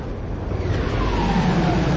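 Spaceship engines surge as the ship jumps into hyperspace in the Star Wars: The New Jedi Order audiobook: a dense, steady roar swells over two seconds, a rumbling low drone with a whooshing hiss above it and a faint tone sliding downward.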